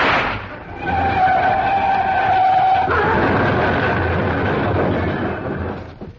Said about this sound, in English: The car started along the road once again and I took a wild shot.